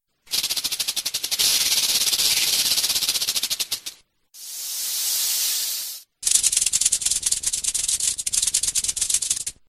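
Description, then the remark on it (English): A snake hisses loudly in three long bursts: a buzzing, rattling hiss, then a smooth steady hiss after a short pause, then more rattling hiss. No one speaks. “I like snakes. Snakes? No, don't like snakes.”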